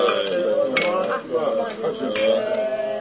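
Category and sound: household object, glasses clinking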